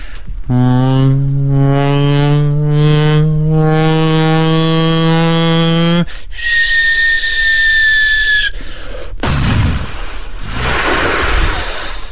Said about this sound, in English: You know, the plane's coming in, it's aiming for a boat, but unfortunately it doesn't hit it, it hits the water. Sea. Yes. Let's hear it, lads. Here we go. Bomb dropping in sea.